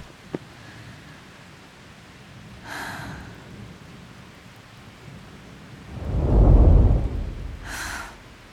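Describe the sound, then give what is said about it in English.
Steady rain hisses throughout while a deep roll of thunder swells in the middle, rumbling loudly for a couple of seconds before fading; no one speaks. “My imagination, or is that thunder getting louder?”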